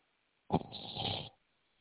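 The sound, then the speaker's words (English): A man snores once during a phone call: a single raspy snore lasting under a second, heard over a muffled, band-limited phone line. It starts with a sharp onset, then a rough breathy rumble, with quiet line hiss before and after. “He's snoring.”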